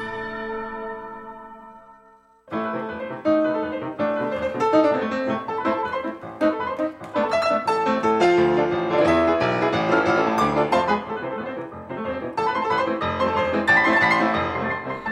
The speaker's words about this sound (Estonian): Väga lihtsa põhjusel kuulesime praegu mõnusat klaveri muusikat.